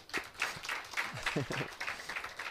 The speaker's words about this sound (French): Oui, on peut l'applaudir.